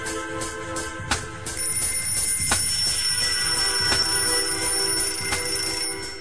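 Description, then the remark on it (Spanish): An alarm clock rings at 8 in the morning with a continuous, loud metallic jangle full of high bright tones, punctuated by sharper clicks about every second and a half, with no voices. “Suena el despertador.”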